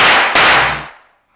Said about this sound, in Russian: Он выстрелил и промахнулся. Я выстрелил почти одновременно с ним, и он рухнул на пол.